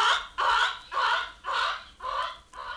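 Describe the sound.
A chicken clucks in a steady run of about six loud, squawky bursts, evenly spaced, with no voices around it.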